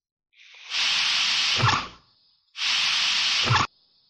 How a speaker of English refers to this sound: That was a door.